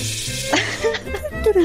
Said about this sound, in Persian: بعد من صدای شرشر آب بیارم.